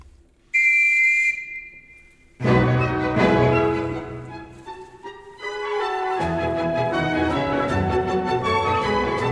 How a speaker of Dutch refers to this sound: Daar zaten we in, Vergnügungszug. Dat is ook altijd een succesnummer bij het nieuwjaarsconcert van de Wiener Philharmoniker. Kan de dirigent in die grote gouden zaal even een conducteurspet opzetten en een fluitje in de mond nemen.